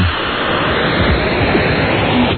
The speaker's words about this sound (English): Oh, no, or it's buzzed with a whipped cream can.